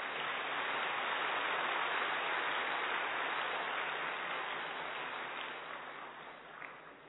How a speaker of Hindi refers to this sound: और बड़े ढीली सी आप वो ताली बजा रहे, जोर से बजाओ।